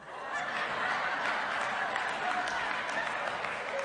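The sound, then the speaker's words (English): An audience applauds in a dense, steady wash of clapping that holds at an even loudness throughout, with some crowd noise mixed in. “Now, those of you who are not applauding, now you know why you don't live in their world.”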